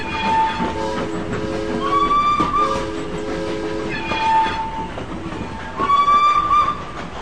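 A train rumbles steadily past while its whistle sounds several times in sustained, bright tones, some rising in pitch, over continuous mechanical clatter. No voices.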